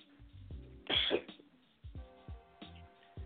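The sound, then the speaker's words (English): A single sharp, explosive sneeze bursts out, loud and breathy, with quieter talking heard before and after it. “Bless you.”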